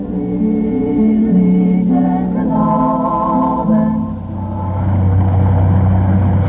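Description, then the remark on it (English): The engine of a passenger boat rumbles steadily with strong low harmonics as the boat departs. Its pitch shifts as it revs up and pulls away, loud throughout with no voices. “Oh, our boat is ready to leave.”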